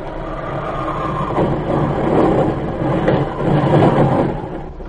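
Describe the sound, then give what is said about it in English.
A heavy plane crash-landing at an airfield, as a sound effect: a heavy, continuous rumbling roar with rattling, surging in waves over about five seconds, with no voices. “The plane is heavy tonight. It does. There's an airfield below. As soon as we are on the ground, run.”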